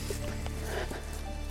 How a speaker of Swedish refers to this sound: Särskilt när det regnar lite så här. Lite lätt.